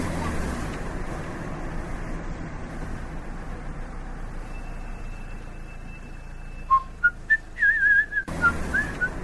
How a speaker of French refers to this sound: Vous sifflez faux, jeune homme.